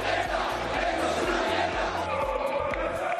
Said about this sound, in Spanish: El Valencia está en una situación crítica. Escuchen lo que le gritaban sus aficionados a sus jugadores en Almería.